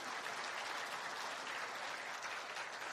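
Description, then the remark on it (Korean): An audience claps for Noah during a sermon by pastor Jang Kyung-dong, in a steady, dense wash of applause that holds at an even loudness for about three seconds, with no voices rising above it. “자, 우리 노아 형님 위해서 박수 한번 쳐주세요.”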